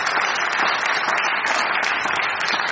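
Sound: audience applause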